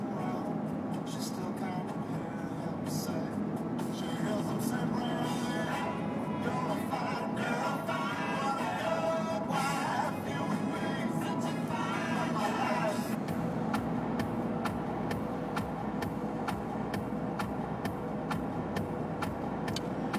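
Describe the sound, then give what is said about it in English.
Continuous road roar of a car driving on a busy freeway while being passed by traffic on the right, with a steady, loud rumble of tires and engine and a rhythmic series of faint ticks in the later half. “But I'm in front of a box truck that is not going fast, and I'm getting passed at such a rate on the right here that I can't get around it.”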